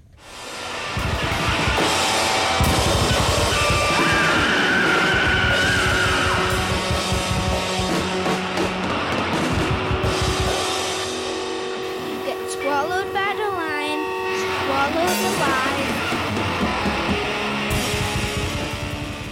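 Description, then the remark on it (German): A loud, dense post-rock track plays continuously, with crashing drums and cymbals pounding under a wall of sustained, distorted guitars and swelling, bending melodic tones. “Die Beats, die sind oft Drums, die sind oft große Postrock, ganz schepper und deckeln, ein großer Akzent.”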